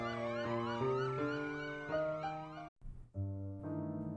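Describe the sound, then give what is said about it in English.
Loud emergency vehicle sirens wail with rising and falling tones, several overlapping, cutting out briefly before a steady siren tone resumes. No voices. “But I could hear sirens and see lights, flashing lights, as I began to lose consciousness.”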